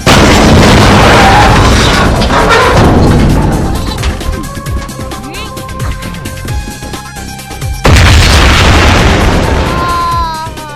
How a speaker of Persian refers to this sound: قبل از اینکه انفجار به هم برسه باید فرار کنم.